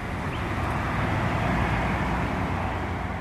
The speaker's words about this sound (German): Keine knallenden Peitschen sind mehr zu hören, keine Schreie des Schmerzes, der Willkür, des Sadismus, nicht die Hetzjagd der Hunde, nur unser Wagen, mit dem wir unterwegs sind durch eine idyllische Landschaft.